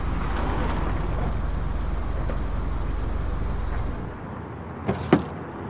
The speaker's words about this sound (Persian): ماشین آریا از روبرو میاد و جلوی وانت توقف میکنه.